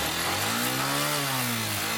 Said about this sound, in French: Jean Rodrigue est présent dans son atelier de réparation de moto depuis 8 heures.